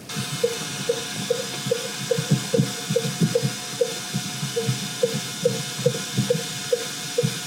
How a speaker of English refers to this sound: So the last piece of this I'll show you is just those 20, those fin whale 20 hertz calls. These are very low frequency. This is sped up 24 times.